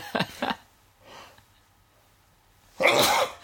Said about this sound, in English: Do they come in threes, do you think? Isn't it 8 sneezes equals an orgasm or something like that? Like, well, we've got 6 to go.